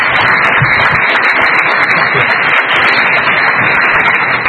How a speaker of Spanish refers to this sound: Un aplauso, hombre, un aplauso ahí.